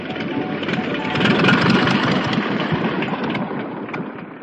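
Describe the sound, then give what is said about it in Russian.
A small propeller plane's engine drones steadily at idle after landing, a dense rattling hum with a rough, buzzing texture that holds at a fairly constant loudness throughout, with no voices. “Бен выключил мотор, нажал на ножные тормоза, и машина остановилась у самой воды.”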